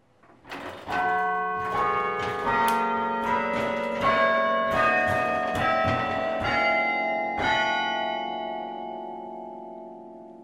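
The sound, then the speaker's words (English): The Cornell Chimes, a set of chime bells at the university, ring out a slow melody, each struck note blooming and lingering into a long resonant decay, loud with no voices. “Those were the first bells of the Cornell Chimes.”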